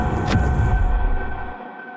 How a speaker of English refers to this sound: Inside a train car, some distant part of the soup.